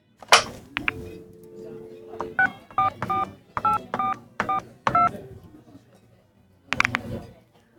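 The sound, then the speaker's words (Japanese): A phone handset in a coffee shop is picked up, then a quick series of keypad beeps rings out as a number is punched in, each tone short and clear, followed by a brief clatter at the end. “すみません。電話はありますか？ はい、ございます。そこにございます。どうぞ。”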